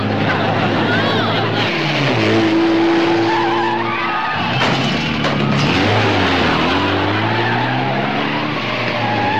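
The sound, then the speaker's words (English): A car speeds loudly through a movie theater with a roaring engine and squealing, skidding tires, the whine rising and falling over about nine seconds, with indistinct voices mixed into the commotion. “Nope, we go through the Bijou Theater.”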